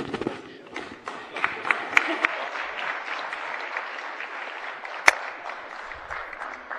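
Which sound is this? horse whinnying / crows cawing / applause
applause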